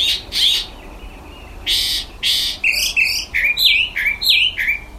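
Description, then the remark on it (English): A mockingbird (cenzontle) sings alone in the morning, perched just outside a window in the high desert mountains of Mexico, opening with a few harsh, raspy bursts, then running through quick repeated phrases of bright, high whistled chirps in a lively, uneven rhythm. “Every morning, a mockingbird would perch just outside his window and sing this song.”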